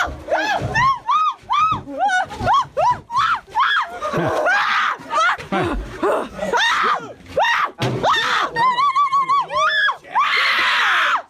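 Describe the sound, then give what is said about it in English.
A sped-up human voice imitates angry monkeys, with rapid, rising shrieks, hoots and chattering squeals in quick bursts, loud, over a faint background hiss of jungle sound effects. “But her sounds may be sped up just a hair, and then jungle sound effects in the background. Right. And you got yourself a monkey.”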